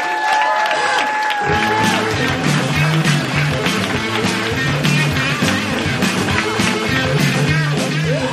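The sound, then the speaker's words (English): A large audience at a comedy show bursts into loud, sustained applause with whoops and cheers as comedian Lori Elliott is introduced, a dense wall of clapping that swells after a brief opening and carries on steadily throughout. “Put your hands together for the delicious Lori Elliott, ladies and gentlemen.”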